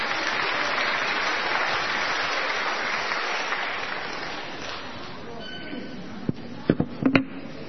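A crowd applauds handmade artworks being held up in the air, with dense, steady clapping that gradually thins out and fades, leaving a few scattered, sharper claps or knocks at the end.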